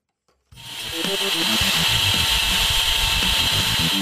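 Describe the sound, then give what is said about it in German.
After a brief silence, Tenok, a do-it-yourself self-assembly vacuum cleaner invented by Tim Kramer, starts up abruptly and runs loudly, a steady rushing hiss over low motor tones that waver and shift in pitch. “Und in dieser hören Sie, oder haben Sie jetzt gerade gehört, den, ja, wir nennen ihn den Star Trek Borg unter den Staubsaugern, den Do-It-Yourself-Staubsauger zum Selbstzusammenbauen.”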